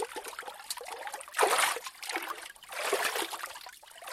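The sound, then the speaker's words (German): Water sloshing and splashing as someone carefully goes down slippery steps into a pool of icy rainwater and dips under, with two stronger surges of churning water between softer trickling and dripping. No voices. “Vorsichtig die Treppen hinuntersteigen. Es ist sehr rutschig und glatt. Das Wasser ist eisig. Das ist Regenwasser. Du schaffst das schon. Dreimal musst du untertauchen.”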